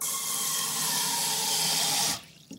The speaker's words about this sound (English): First, she'll be filling the pot with some water.